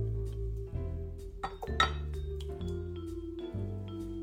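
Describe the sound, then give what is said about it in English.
A whisk clinks and taps against a 2-cup glass measuring cup, whisking marinade ingredients including half a cup of filtered water and Dijon mustard. It moves in quick, uneven strokes, producing bright ringing chinks over a low steady hum, with no one speaking. “So the first thing we're going to do is whisk all our marinade ingredients together.”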